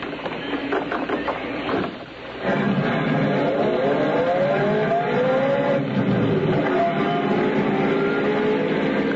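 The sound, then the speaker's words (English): A car engine revs and pulls away, its pitch climbing in a few rising sweeps as it accelerates, loud and steady over a constant rumble. No one speaks. “But that's my car.”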